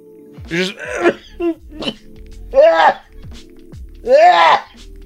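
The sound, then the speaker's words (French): A string of muffled coughs into the elbow, several harsh bursts with throaty, voiced edges; no talking between them. “J'ai toussé dans mon coude, je veux une médaille.”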